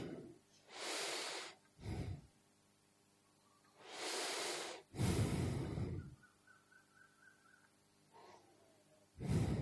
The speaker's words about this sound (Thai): ให้จิตใจอยู่กับลมหายใจด้วยความละเอียดความประณีตคือลมหายใจเข้าลมหายใจออกต้องรักษาความตั้งใจตลอดลมหายใจเข้า